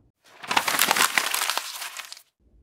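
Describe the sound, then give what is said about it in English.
A dented water bottle drops and clatters, giving about two seconds of dense, bright crackling and crinkling with many quick clicks before it suddenly stops. No one speaks. “So, this is a perfect example of a water bottle or a bottle dropping.”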